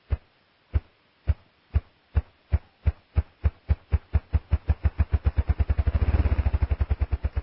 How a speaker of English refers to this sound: Listen for a moment to this remarkable drumming of a ruffed grouse.